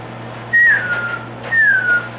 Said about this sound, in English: Could they hear that? Yeah. Whistle loud enough if they ain't too far off again.